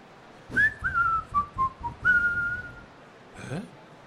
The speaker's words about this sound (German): Pfiff, pfiff, pfiff, pfiff.